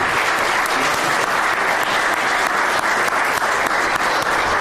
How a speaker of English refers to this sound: Can we have another round of applause for these guys?